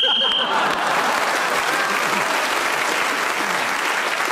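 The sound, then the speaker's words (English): A short, shrill whistle blast sounds at the very start, blown to end Paul Merton's speaking turn in a panel game, then gives way to steady, loud applause from a crowd that continues to the end. “Paul Merton was then speaking as a whistle.”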